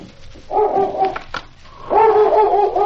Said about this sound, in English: It was about 1 o'clock in the morning when both lawmen were awakened by King, who had been sleeping in the snow in front of the door. I'll see why King's barking.